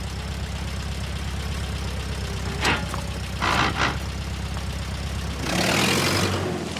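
A car engine hums steadily at a low, even rumble, broken by a few short clunks, then a louder rushing burst near the end as the engine note drops away.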